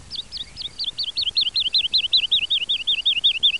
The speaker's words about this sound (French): Voilà, c'est sympa, ça me fait ma petite virgule sonore dans l'émission. C'était l'alouette Lalu, bien entendu.